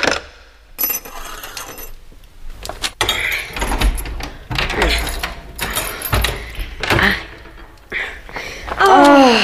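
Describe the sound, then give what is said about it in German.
Metallic clicks and jingling of a key being pulled out of a door lock, followed by scraping and sliding sounds along the floor as the key is pushed under the door, ending in a louder rasping scrape. “Zieh ihn ab und schieb ihn unter der Tür durch.”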